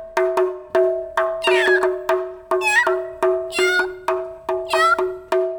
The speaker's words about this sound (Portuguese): ouve-se um gato miando. Miando muito. O músico resolveu procurar o gato para saber por que ele estava miando tanto assim.